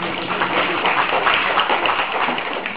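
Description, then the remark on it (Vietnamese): A crowd gives a big round of applause when called for, many hands clapping into a dense, continuous wash of sound that holds at an even loudness for a few seconds without any voices. “Cho giáo thùng một tràng pháo tay lớn.”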